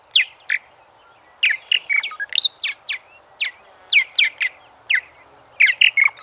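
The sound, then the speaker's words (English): Purple martin, the largest swallow to nest in the U.S. and Canada, singing: a rapid run of bright chirps, gurgles and throaty warbles in short clustered bursts, fairly loud and clear with no talking. “This sweet voice belongs to the purple martin, the largest swallow to nest in the U.S. and Canada.”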